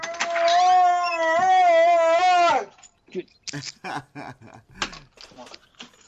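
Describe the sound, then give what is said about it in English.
A dog lets out one long, loud, wavering howl lasting a couple of seconds, then falls quiet as someone starts talking. “I've got my own dog problems. I'll give them a minute to calm down.”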